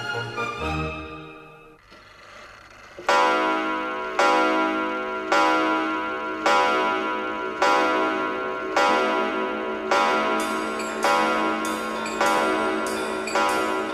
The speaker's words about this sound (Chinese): 哎，大家听，钟表店呢，又重新的热闹起来了呢。